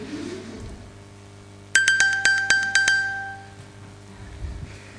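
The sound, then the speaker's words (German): An iPhone's bright ping alert, triggered from an Apple Watch to find the phone, rings out in a quick run of about six chiming pulses, then rings on briefly and fades, with no talking. “Dank dieser Ping-Funktion darf er sein Telefon einfach nie wieder verlegen und verlieren.”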